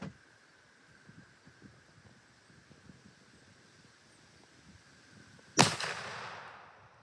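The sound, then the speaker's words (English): A single loud rifle shot cracks out after several seconds of quiet outdoor wind and faint rustling, its sharp report trailing off into a brief echoing decay. “Shooting about an inch high, but I mean that's nothing too horrible.”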